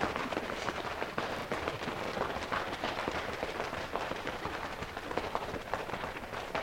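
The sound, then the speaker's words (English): A steady round of applause from a group for 'the great Pooba': dense, overlapping claps crackling continuously at an even loudness for several seconds, with no talking. “That was a round of applause for the great Pooba.”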